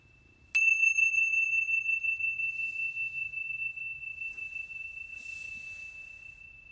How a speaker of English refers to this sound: Wiggling your toes and your fingers, listening to the sound of the chimes all the way through, and then coming back into this space.